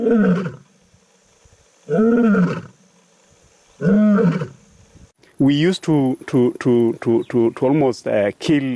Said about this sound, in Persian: ما تقریبا هر شیری را که صدای غرشش در امبروسلی می‌شنیدیم می‌کشتیم، حتی اگه شیر هیچ چکاری نکرده بود.